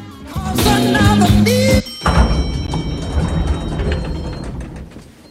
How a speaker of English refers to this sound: Back in the hospital, Art steps out of an elevator.